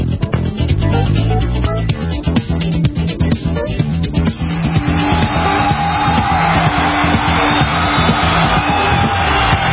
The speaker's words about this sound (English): Woo, good to have you along, everybody. Thanks for cheering. Appreciate that.